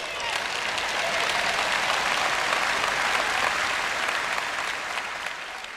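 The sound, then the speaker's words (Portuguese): An audience applauds God steadily, many hands clapping in a dense, even roar that holds for nearly six seconds before easing slightly at the end. “Vamos, aplauda nosso Deus.”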